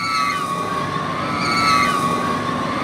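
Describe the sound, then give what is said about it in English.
A crowd of riders on the rides at the South Carolina State Fair lets out overlapping high-pitched screams of delight that rise and fall in waves over a steady mechanical hum and constant background noise. “Those are not screams of terror, they're screams of delight, and they've been heard from the rides at the South Carolina State Fair for many decades.”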